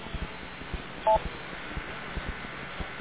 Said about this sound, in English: The beep I just heard led me to believe that we need a PL tone. So it would sound like we're out of the net mode.